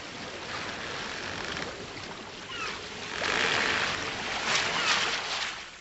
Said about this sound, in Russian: Шторм еще более усилился. Он осторожно открыл дверь каюты, вышел и был ошарашен ледяной пеной волн.